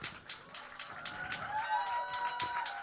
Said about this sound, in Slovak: Veľký potlesk pre podsvinčatá.